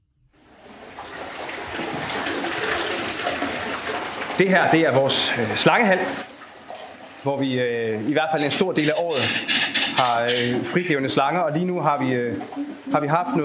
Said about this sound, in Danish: Så dem, I kan høre skrabbe her i baggrunden, det er altså et par trompeterfugle.